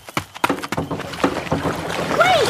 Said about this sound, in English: I'm going to try to jump into the boat the same second she does. Hold on.